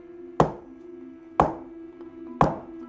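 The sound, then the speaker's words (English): Three sharp knocks on a wooden coffee table in a living room, less than a foot away, evenly spaced about a second apart, each a hard woody rap over a faint steady low hum, with no voices. “I presume that the knocking would be on the coffee table, sitting less than a foot away.”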